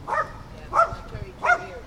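A dog barks three times in a steady rhythm, each bark short and sharp, moderately loud over a quiet, murmuring background.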